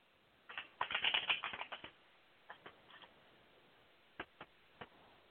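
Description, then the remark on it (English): Tarot cards being shuffled for a tarot reading: a quick burst of dense riffling clicks, then a few scattered soft taps and snaps as the deck is handled, with no talking. “So let me shuffle.”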